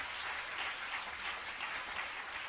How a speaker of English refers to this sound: Clap your hands for the Lord. Oh, clap these hands.